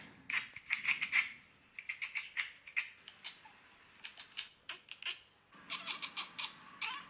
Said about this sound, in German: Cats Chirping and Chattering, Cat Compilation. Nach dem Motto, dass Katzen Vögel imitieren, oder?